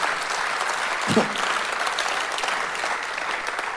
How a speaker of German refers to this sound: Lasst uns Gott einen Applaus geben.